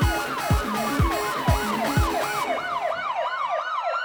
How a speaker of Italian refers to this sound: Certo che le sente le sirene, Anton. Ci hanno messo poco. Ah, è proprio vero che la polizia diventa efficiente solo nei momenti meno opportuni.